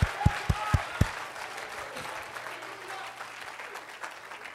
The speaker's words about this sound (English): Come on, clap your hands and shout, everybody can come.